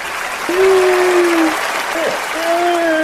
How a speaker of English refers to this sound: That's right. I had to give you the Oscar applause for that one because, again, he's been doing great the last few times.